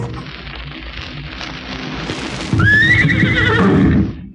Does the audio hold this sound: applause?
no